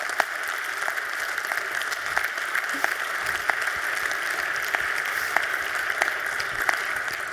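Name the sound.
audience applause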